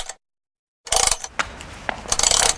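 A brief mechanical rattle, a pause of silence, then the gears of the clock mechanism in the town hall tower in central Białystok grinding and clicking with a steady metallic clatter and a few sharper knocks, with no voices.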